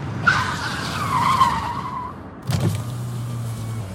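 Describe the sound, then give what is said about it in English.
A BMW sports car's tires screech loudly for about two seconds as it cuts off a woman and skids to an abrupt stop with a short jolt, then its engine settles into a low, steady idle. “As Dina approaches her car, a BMW sports car cuts her off.”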